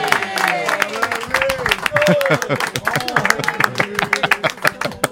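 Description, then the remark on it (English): A small group breaks into a round of applause, dense rapid clapping that carries on throughout, with voices calling out and chattering over it. “Oh, give him a round of applause.”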